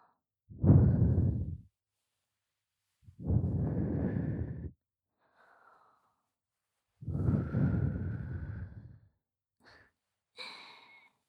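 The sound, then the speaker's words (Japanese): Three long, soft breaths are blown into the listener's ear very close to the microphone, airy and slow with pauses between them, followed by a few faint, brief breathy sounds. No one speaks. “耳に吐息を。”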